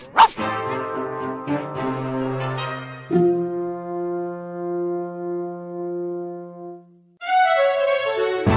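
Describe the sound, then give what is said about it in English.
A dog, Preston the Wonder Dog, barks and whimpers, letting out several long, drawn-out whining cries that waver and fade, with a short break before a final loud yelp-like whine. “Greetings, I am Sergeant King of the Mounties, and this is Preston, the Wonder Dog.”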